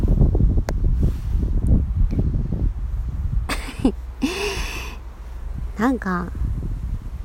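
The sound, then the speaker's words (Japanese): Strong wind buffets an outdoor microphone, producing loud, rumbling low-frequency gusts throughout, with a woman speaking briefly over the roar and some sharp rustling bursts. “前回からさ、収録の時にさ、めっちゃ風の音入ってるねみたいな言われた。”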